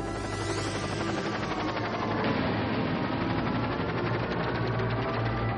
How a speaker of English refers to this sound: I'm trying to figure out what this intro is. We got helicopters going.